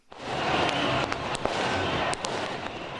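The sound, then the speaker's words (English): Celebratory fireworks crack and pop in quick, scattered bursts over a dense, roaring crowd in Tahrir Square, Cairo, Egypt, celebrating the military's ousting of President Mohamed Morsi, the sharp bangs ringing out again and again above the steady wash of cheering voices. “Celebratory fireworks and laser lights are lighting up the crowd in Tahrir Square.”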